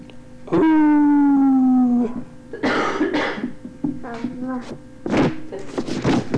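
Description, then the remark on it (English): A person imitates a howl with one loud, sustained, slowly falling vocal tone lasting about a second and a half, followed by breathy bursts like laughter and throat noises. “Not a very good howl”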